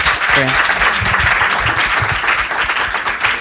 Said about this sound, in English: Thank you so much to the panel. Can we give them a round of applause here? Thank you so much.